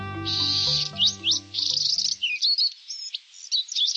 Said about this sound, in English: At this time of year, a very young male Buick's wren is beginning to learn how to sing. Like a human baby, he'll babble while he experiments with sounds and learns how to organize phrases.